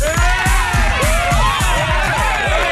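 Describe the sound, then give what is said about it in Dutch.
A large crowd applauds and cheers loudly, with whoops and excited shouting rising over steady clapping throughout the short burst. “Dat applaus krijg ik niet als ik hier de studio ben kan lopen.”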